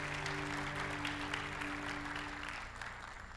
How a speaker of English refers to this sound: You may have a seat. Can we have a round of applause for the worship team? Is that not wonderful?